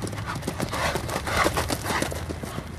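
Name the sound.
horse hooves trotting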